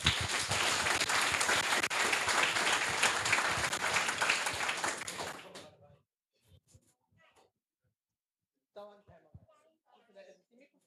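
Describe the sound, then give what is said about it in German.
Dense, loud audience applause of many hands clapping for a group that is presenting a project fills the opening, fading out around six seconds; afterward come brief quiet voices and short talk. “Ein Applaus für die Gruppe.”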